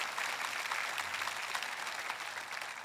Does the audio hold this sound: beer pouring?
no